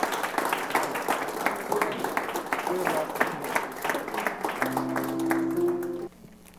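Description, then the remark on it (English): A crowd claps hands together in a steady burst of applause in praise of God one morning, with scattered voices calling out beneath it and a sustained organ-like tone entering near the end before it cuts off. “You guys give God a hand clap of praise this morning.”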